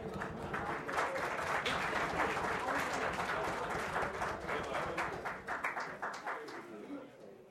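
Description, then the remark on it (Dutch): Thin, scattered applause fills a council chamber for several seconds after a newly sworn-in member is congratulated, a modest number of people clapping unevenly before it tapers off near the end, with some murmured voices underneath. “Het was wel een mager applaus”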